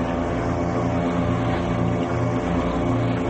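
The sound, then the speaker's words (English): A steady, buzzing outboard motor of an inflatable Zodiac boat drones continuously at a fairly strong level as it fades into the distance, its harmonic whine holding even, with no voices present. “My last vague memory was the sound of an outboard motor fading into the distance.”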